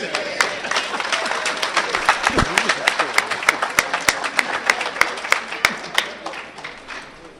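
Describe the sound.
A small group at a meeting claps steadily for several seconds after a speaker's share, the individual handclaps sharp and distinct, with a faint murmur of voices underneath before the applause tapers off.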